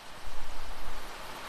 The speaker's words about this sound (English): Wow, listen to that. I guess there are worse places to be right now. The rain falling.